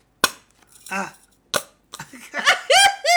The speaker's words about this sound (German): Hörst du das? Das ist Pupshonig. Das ist wirklich anders.